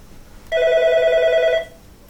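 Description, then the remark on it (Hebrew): A telephone rings once in a single sustained electronic burst of about a second, bright and steady with layered tones, clear over a quiet background. “אני מחכה לאיזה טלפון.”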